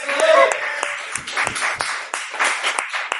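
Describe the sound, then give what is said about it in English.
A crowd at the Playground Theater applauds David up in the booth: dense, steady clapping fills the whole stretch, with a few sharper claps standing out and a brief high whistle or cheer near the start. “Big round of applause for David up in the booth.”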